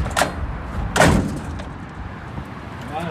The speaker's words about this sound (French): Il faut bien refermer la porte.